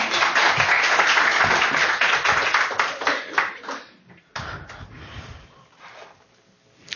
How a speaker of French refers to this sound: On peut l'applaudir.